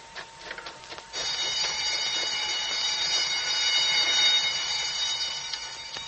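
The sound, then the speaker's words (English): A loud, continuous prison alarm bell starts abruptly after about a second and rings steadily without pause, a harsh metallic clanging, following a few faint clicks and knocks; it is raised because convicts have shot their way out of the prison. “Statewide alarm. Emergency.”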